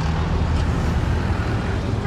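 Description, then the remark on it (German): Loud engine rumble of buses passing dangerously close to pedestrians and stalls in the crowded Kariokor market in central Nairobi, a steady dense roar of traffic with a bustling background and a faint murmur of voices. “Busse fahren gefährlich nah an den Fußgängern und Ständen vorbei.”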